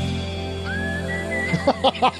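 A whistled tune from the intro of a rock song released in 1990: a long, gliding held note, then a few short, bright notes in quick succession, clear over a steady low background hum, with no talking.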